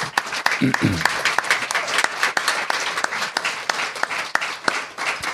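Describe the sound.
An audience breaks into steady applause for the speaker's son, many hands clapping in a dense, continuous patter with sharp individual claps popping through, sustained for several seconds; a brief voice is audible at the start.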